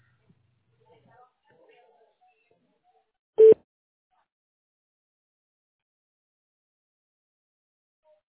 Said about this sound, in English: Leave your name at the beep.